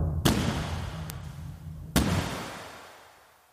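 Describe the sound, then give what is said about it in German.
Two sharp gunshots fired by a naval officer at a dog handler ring out about a second and a half apart, each with a booming echo that fades slowly, with a fainter crack in between. No voices. “Sicher ist, dass kurz darauf Schüsse fallen.”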